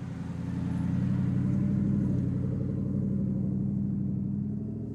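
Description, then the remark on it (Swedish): A small car's engine hums steadily, a continuous low rumble with a faint rhythmic throb, holding an even pace for the whole stretch with no voices. “Då kan man väl inte sitta och lyssna på en ljudbok om ett äpple och ett päron som kör runt i en liten bil.”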